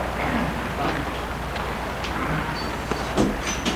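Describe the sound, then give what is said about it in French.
A man opens the door to his bedroom: a steady rumbling, scraping slide with a few sharp clicks and knocks toward the end. “Il ouvre la porte éclair.”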